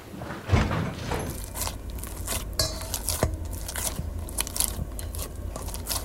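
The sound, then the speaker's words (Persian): Someone bites into pizza and chews noisily, with repeated soft crunches and wet smacking in an irregular rhythm, plus a faint clink of dishes now and then. No one speaks. “پیتزا تو بخور.”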